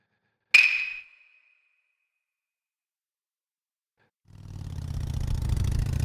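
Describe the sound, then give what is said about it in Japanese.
A sharp metallic ping rings out and fades, followed by a few seconds of silence before a motorcycle engine rumbles to life and keeps running steadily and fairly loud, as police order the motorcycle to stop. “そこのバイク今すぐ止まりなさい。”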